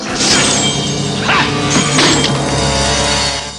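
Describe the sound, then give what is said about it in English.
Glass mirrors shatter in a series of loud crashes as Lee smashes mirror after mirror, with bright tinkling shards scattering between the impacts over a dense, noisy background. “Lee smashes the mirror.”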